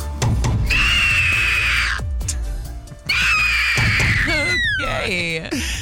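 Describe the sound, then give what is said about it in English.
An eagle screeches loudly, two long harsh shrieks followed by a quick run of shorter, falling piercing cries, with a low rumble underneath. “Eagle?”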